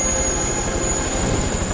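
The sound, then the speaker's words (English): A helicopter lifting off instantly: a loud, steady mechanical roar fills the space with a thin high whine riding on top, continuous throughout, with no voices. “Doyle bundles the unwilling Josh into a helicopter which lifts off instantly.”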